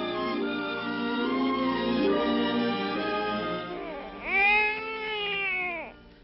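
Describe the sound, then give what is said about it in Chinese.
An infant cries steadily, with a long wavering wail that swells into a sharper, higher cry near the end. It is fairly loud, with no talking. “我还没有到家就听见婴儿的哭声，哎呀，一定会被人听见的。”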